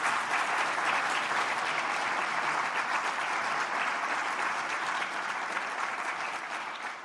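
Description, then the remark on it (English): A large conference audience claps steadily for about seven seconds, giving a final round of applause at the close of a talk: a dense, even wash of applause that holds its level and only begins to thin slightly at the end. “If not, can I ask you all to give one final round of applause to Kathleen for an excellent start to the conference.”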